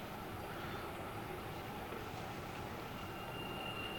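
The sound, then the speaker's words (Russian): A steady, dense rumble fills the space inside a carriage of a huge high-speed train, with constant low roar, faint rattling and a thin high whine running underneath, no voices. “Владелец или водитель машины, огромного скоростного поезда.”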